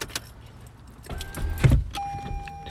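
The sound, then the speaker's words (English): Car keys jangle and click in an ignition as the car is turned off, the engine's low rumble thumping and dying away, followed by a steady electronic chime tone, fairly quiet. “Turn off the car.”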